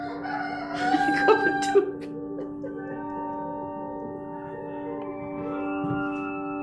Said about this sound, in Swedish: Här har vi ju en känd fågel som gör... Om man hör ett ljud av en näktergal så är man genast liksom där, va? I våren och det gröna och fina.